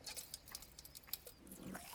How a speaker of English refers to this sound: I'm drinking a sparkling water right now. Here, can you hear that? Let me take a sip and see if you can get the ASMR from it.